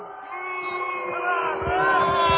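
A stadium crowd reacts to a football play ruled right on the goal line in the first half, with a continuous roar of many cheering voices, swelling louder about halfway through and holding strong to the end, with no commentator speaking over it.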